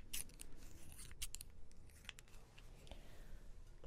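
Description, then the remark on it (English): Crisp snips of hair cutting scissors in quick irregular bursts, several sharp metallic clicks with soft rustling between them, without any talking. “I do recommend real hair cutting scissors if you're going to do a hair cutting role play.”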